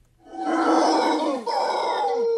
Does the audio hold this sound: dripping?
no